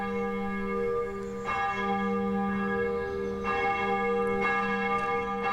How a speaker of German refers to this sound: Junkersdorf im Kölner Westen. Ein Sonntagmorgen im Frühjahr. Die Glocken der Dietrich-Bonhoeffer Kirche rufen zum Gottesdienst.